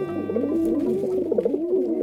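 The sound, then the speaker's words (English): A pigeon coos in a low, throaty, rolling warble that carries on steadily for a couple of seconds, moderately loud, with no voices. “Well, have you ever heard of something called pigeon milk? Pigeons, one of the most ancient of domesticated birds, feed their nestlings a peculiar milky liquid”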